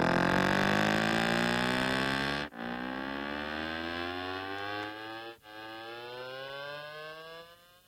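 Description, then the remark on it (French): A motorcycle starts up; its engine revs and accelerates, the droning pitch climbing steadily, with two brief drops like gear changes, loud with no talking. “Une moto qui démarre.”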